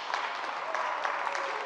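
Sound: audience applause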